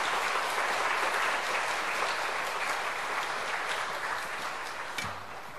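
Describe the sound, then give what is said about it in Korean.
An audience claps steadily to welcome a missionary, in a dense, continuous wash of applause that holds fairly loud for several seconds, then begins to taper slightly at the end, with no talking over it. “여러분 박수로서 우리 선교사님 맞이하도록 하겠습니다.”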